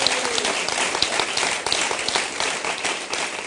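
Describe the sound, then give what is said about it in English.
An audience applauds at the close of a Commonwealth Club of California event, a dense, steady wash of many hands clapping at once, fairly loud and sustained throughout with no voices standing out. “And I guess you get to clap.”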